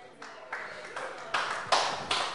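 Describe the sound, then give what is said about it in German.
An audience claps together in a steady rhythm, each bright, noisy burst of many hands landing roughly twice a second and growing louder, with voices murmuring underneath. “Da die Gläubigen klatschen.”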